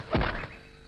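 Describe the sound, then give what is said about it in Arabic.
A single dull thump of a foot striking the ground as a secret signal, a short low impact that fades quickly into quiet, with no voices present. “في أحد الأيام علم أرنوب ابنه شقشوق إرسال إشارات سرية، وذلك بأن يدق الأرض بقدمه.”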